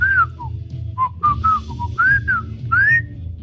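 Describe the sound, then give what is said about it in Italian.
A person whistles a short, tuneful melody from a song, the clear tones gliding up and down in a phrase of several notes, steady over a low background rumble, with no one talking. “Ce la sta cantando, ce la sta fischiando la canzone, immagino.”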